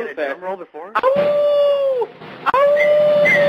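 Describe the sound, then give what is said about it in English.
A male dachshund howls in long, sustained, wavering notes, two drawn-out howls separated by a short break, loud, with a brief yippy whimpering lead-in at the start. “Do you want to hear him sing?”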